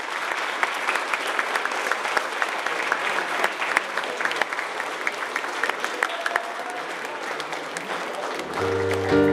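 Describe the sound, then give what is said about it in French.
A crowd claps together in sustained, dense applause lasting several seconds, steady and fairly loud, with a low tonal sound rising at the very end, as the group applauds itself all together to mark the day. “Et puis, je voudrais qu'on s'applaudisse tous ensemble pour vraiment marquer cette journée.”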